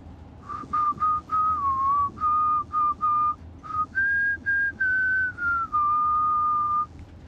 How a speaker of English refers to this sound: Hey, you know, it's a really good thing I heard you whistling that back at Preston Lake.